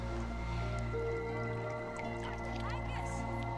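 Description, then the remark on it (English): Water drips and dribbles in a few soft, scattered drops as an 11-year-old boy slowly lifts a large round rock from a rock pool with both hands, with a brief trickle near the end, set against a steady low droning background. “He reaches down into the water and with both hands slowly lifts a large round rock from the pool.”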